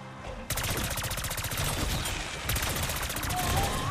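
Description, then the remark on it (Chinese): Loud, rapid video game gunfire from a monster shooting erupts after a brief quiet moment and keeps hammering in fast, steady bursts until the end, with a short shift in the volley midway. “我聽到怪獸嘅聲啊！哇，佢射到咧嗱！”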